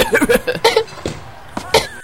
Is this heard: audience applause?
no